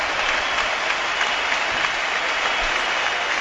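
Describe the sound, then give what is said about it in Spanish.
A crowd of more than 30,000 spectators at Mestalla stadium stands and applauds in an ovation for footballer Joaquín Sánchez as he is substituted, a steady, dense roar of clapping that holds loud and even throughout, with no voices standing out. “Todo Mestalla en pie, más de 30.000 espectadores, a pesar de que su equipo va perdiendo 0-2. Se pone en pie para ovacionar a Joaquín Sánchez.”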